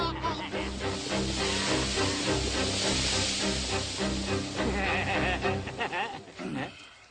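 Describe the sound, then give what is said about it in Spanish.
A steady, loud hiss of bubbling oil boiling in a cauldron, with low rumbling underneath before it tapers off near the end. “Esto no debe pasar. Está hirviendo.”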